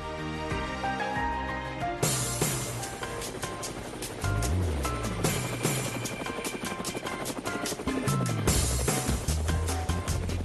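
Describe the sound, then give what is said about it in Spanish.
A helicopter heading to Baracoa: its rotor blades thump in a rapid, steady chop with a loud roaring engine, continuous for the whole stretch after a brief tonal whine at the start. “Bueno, amigos de Cuba, ahí están ustedes oyendo las zapas del helicóptero.”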